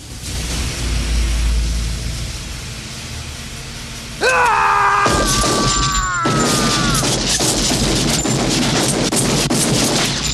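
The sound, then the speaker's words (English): A low rumble gives way to a loud metallic screech, then sharp gunshots crack out in quick succession over a noisy, roaring background, fired from a gun beside a steaming train on a railway, with no talking. “Roster raises his gun.”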